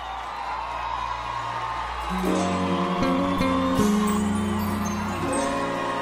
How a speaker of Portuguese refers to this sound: Senhoras e senhores, no contrabaixo, uma salva de palmas